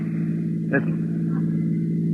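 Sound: cars approaching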